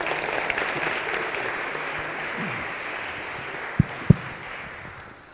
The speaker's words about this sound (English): And we're going to go through the baptism liturgy and being thankful to God for all He's done. So can you give them a round of applause?